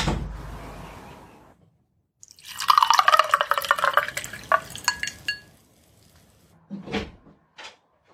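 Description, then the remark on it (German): A new drink is poured into a glass for a few seconds with a splashy, gurgling rush, then two short knocks follow, like a bottle or glass set down. No one speaks. “Ich konnte gerade was Neues zu trinken einschenken.”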